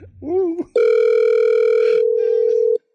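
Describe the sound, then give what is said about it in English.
A short burst of voice gives way to a single long, steady electronic telephone ringing tone, loud, holding for about two seconds before cutting off abruptly. “Okay, phone in the chum.”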